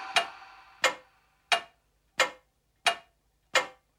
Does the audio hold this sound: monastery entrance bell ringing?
no